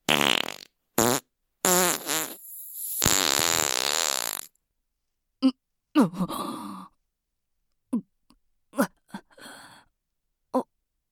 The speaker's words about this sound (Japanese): おならがクソに押されて勝手に。